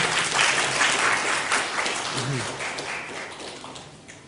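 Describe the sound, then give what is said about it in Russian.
An audience applauds a magic trick, a dense wash of many hands clapping that stays fairly loud throughout, easing off slightly toward the end. A brief murmur of voices surfaces midway. “Мне кажется, это достойно аплодисментов.”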